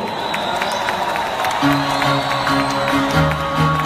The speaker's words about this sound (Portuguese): Palmas, gente, palmas, palmas, palmas.